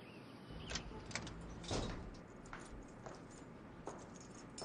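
Keys click and jingle at the lock of a main door, followed by the door scraping open, with a few sharp metallic taps spread over a few seconds and no talking.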